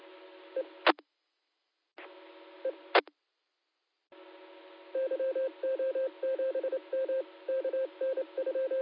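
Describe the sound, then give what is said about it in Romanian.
Rapid phone keypad tones beep in quick bursts over a steady hiss as someone dials a call, after a few clicks and gaps of silence near the start; no one speaks. “Da, bă, te-a recepționat, hai să-i căsun eu acum.”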